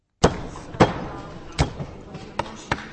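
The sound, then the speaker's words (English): Volunteers' hammer blows strike the plastic shells of votive candles, prying them off in the warehouse of Prague's Trafečka Cultural Center; the candles were lit for late President Václav Havel and are being recycled into a wax heart. Five sharp, loud knocks at uneven intervals over a low, busy background murmur. “Dozens of volunteers were hammering away in the warehouse of Prague's Trafečka Cultural Center this Saturday, prying the plastic shell from the thousands of votive candles that were lit in honor of late President Václav Havel all over the country.”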